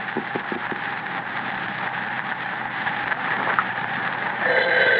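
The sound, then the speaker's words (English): A telephone rings in a home with a long, continuous metallic jangle, fairly loud, with no voices over it. The ring holds steady and swells slightly louder near the end. “That, ladies and gentlemen, is the phone in the home of Mrs. Grace Stockton.”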